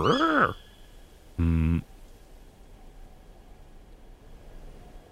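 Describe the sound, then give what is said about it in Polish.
Tawny owls give two short, harsh calls in a forest: a quick rising-and-falling cry, then a buzzy, rasping note a second later, over a faint steady hiss with no voices. “Suche puszczyki. Jakieś sowowe.”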